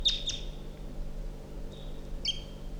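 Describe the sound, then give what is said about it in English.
Wild birds calling in thin, high-pitched notes: a couple of quick chirps, a pause, then a few more bright calls over a steady low hum. “That's 327 on the side, tooping and calling.”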